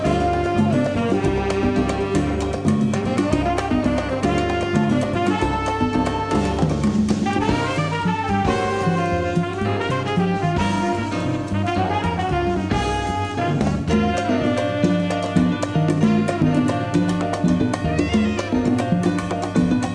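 A loud, full big band plays a brisk mambo, brass and a jazz saxophone weaving busy melodic lines over steady driving percussion, with no talking throughout; played on the radio show Hombre Lobo on Radio Atómica.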